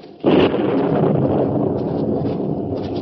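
thunder

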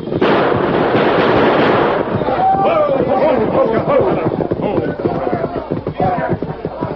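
gunshots

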